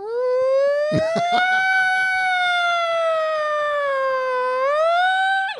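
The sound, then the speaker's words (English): A single voice imitates a 1941 City of London air raid siren, a long sustained wailing tone that slowly rises and falls, then swoops upward near the end, loud. “Just we haven't had opportunity for you to do your siren in a while.”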